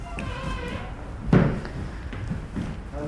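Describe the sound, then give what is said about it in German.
A door swings shut with a single solid thud partway through as a woman slips through it behind a parcel courier, fairly loud, amid a low hum of indoor background noise and faint indistinct voices. “Sie schlüpft dem Paketboten hinterher durch die Tür und geht den Flur entlang zum Treppenhaus.”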